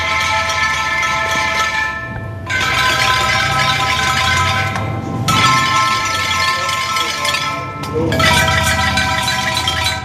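Tuned, cowbell-like bells made of copper tubes, in an artists' workshop in a huge hangar half an hour's drive from Brighton, strike a chord four times, each bright metallic cluster ringing out for two to three seconds before the next. Loud and clangy, with no voices.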